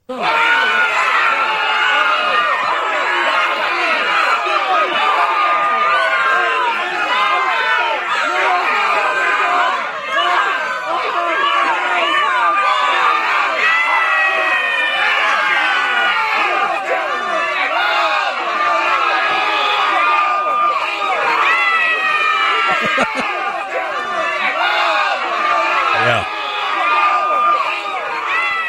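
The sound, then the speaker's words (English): A large crowd screams and shrieks in panic, a dense wall of overlapping high-pitched cries that stays loud and chaotic for the whole stretch, with voices rising and falling continuously. “That's a terrified crowd.”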